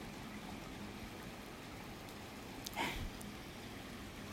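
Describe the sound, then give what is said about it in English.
Steady, soft hiss of rain falling outdoors at about 3 in the morning, heard through an open front door, with one brief brighter splash or clatter partway through and no voices. “I love the smell of rain, too.”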